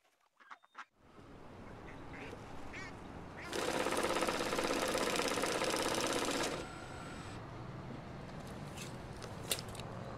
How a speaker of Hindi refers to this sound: तुम्हारी गाड़ी है? हाँ। स्टार्ट करो, चले चले।